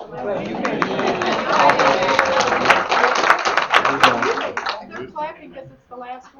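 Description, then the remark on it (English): Dense, steady applause from an audience clapping because it is the sixth and final deal, a rapid crackle of many hands clapping for about five seconds with voices mixed in, then it fades as a person starts talking. “They're clapping because it's the last one.”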